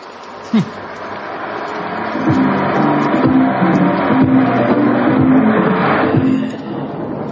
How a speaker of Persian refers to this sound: این ماشینی که گذشت قشنگیشو سانتیمانتال بودنشو میبینی؟